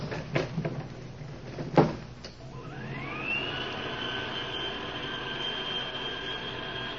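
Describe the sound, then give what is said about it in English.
An elevator door slides and shuts with a couple of clanks and a loud bang, then a motor whines upward in pitch and settles into a steady humming drone as the crowded car ascends upstairs. “Close the door and take us up.”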